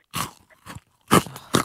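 Crisp crunching as someone bites and chews a crunchy chocolate bar, four sharp bursts over under two seconds, the last two loudest, with no talking.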